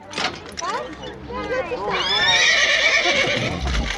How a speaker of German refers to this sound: Die Pferdekutsche ist umgeflogen und jetzt reißen sich auch noch die Pferde los. Verflixt. Oh Mann, was für ein Pech. Die Pferde, sie gehen durch